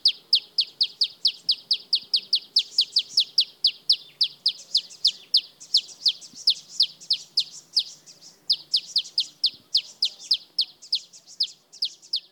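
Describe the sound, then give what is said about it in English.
A male malachite sunbird, perched on an aloe plant in South Africa, sings a rapid, continuous series of high, buzzy chirps, fairly loud, with brief pauses, over faint soft bird sounds, including a male southern double-collared sunbird in the background. “Here's a male malachite sunbird in South Africa. He's singing while perched on an aloe plant.”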